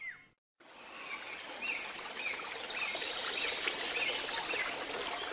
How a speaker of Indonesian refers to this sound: Setelah berjalan menyusuri hutan, Kancil pun tiba di sebuah aliran sungai yang deras.